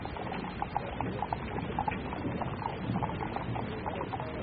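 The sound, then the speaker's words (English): Hooves of the horses drawing a caisson in a presidential funeral procession, one a dapple gray mare, clip-clop on the pavement of Constitution Avenue toward Arlington National Cemetery in a steady stream of sharp, hollow knocks, several animals' steps overlapping, over a constant low murmur of background noise. “And one of the horses, a dapple gray mare, seemed to prance or stir up for a second, but his rider quickly controlled him.”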